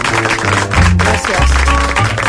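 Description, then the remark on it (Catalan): A crowd applauds loudly and steadily for a couple of seconds to welcome a visiting guest, a dense wash of clapping with a low musical sound running underneath. “Bueno, doncs per coses cachondes, senyores i senyors, anava a dir jo que tenim a una visita important, és un luxe per nosaltres, rebre amb aquest fort aplaudiment a Judit Martí.”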